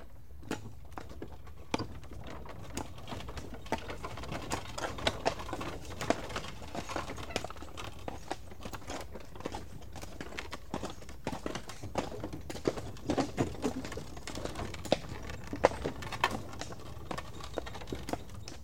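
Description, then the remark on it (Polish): Steady clip-clop of horse hooves on a hard road during a ride on a horse-drawn wagon, with the wagon rattling along behind in a continuous stream of sharp knocks, no voices. “Kiedyś przejażdżka wozem konnym.”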